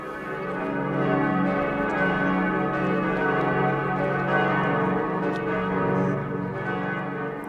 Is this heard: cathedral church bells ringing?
yes